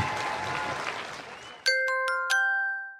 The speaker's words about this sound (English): Ladies and gentlemen, please, a huge round of applause for Sir Patrick and Daniel Stewart.